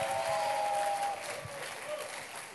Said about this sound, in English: Oh, welcome him. Clap for him as he comes.